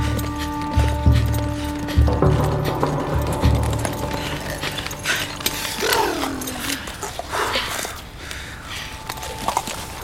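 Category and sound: animal, horse hooves clip-clopping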